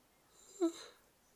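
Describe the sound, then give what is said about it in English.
A single breathy yawn swells and fades over about half a second, with a brief low voiced groan at its peak and quiet surroundings. “Yawn there.”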